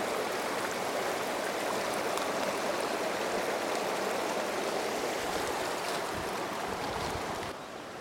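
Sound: flowing mountain stream water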